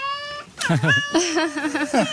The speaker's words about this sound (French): Un chat.